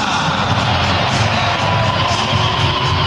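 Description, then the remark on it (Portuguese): A large stadium crowd roars steadily, applause and cheering blending into a constant wash of noise with a faint thread of booing mixed in underneath, as player number 14, Marcos Rocha, is announced on the big screen in the tricolor team's lineup. “Ouvi meia dúzia de vaias, tá? Confesso que ouvi baixinho, mas ouvi.”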